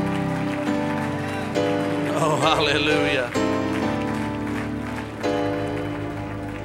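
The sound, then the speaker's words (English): A crowd claps their hands in praise of Jesus, a dense, sustained patter of applause over steady organ-like music, while a voice calls out above it. “Let's give Jesus a great big hand clap of praise. Oh, come on, clap your hands.”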